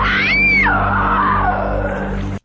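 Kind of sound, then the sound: sound effect, woman screaming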